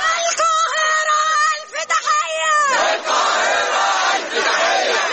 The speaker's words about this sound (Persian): فریاد حمایت از فلسطینی‌ها در قاهره.